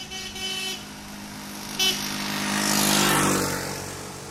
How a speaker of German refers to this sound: Pferdekarren, Rikschas, alte amerikanische Straßenkreuzer, aber auch moderne Autos, meistens aus chinesischer Produktion, rauschen an den Feldern vorbei.